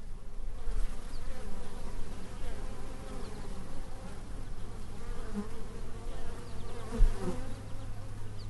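A dense, steady buzzing of many bees fills the scene, a continuous droning hum that swells slightly at moments but never stops, with no voices.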